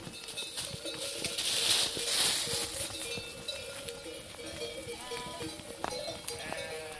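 A flock of ewes bleats in overlapping calls over a steady rustling and clinking pasture background, with no one speaking.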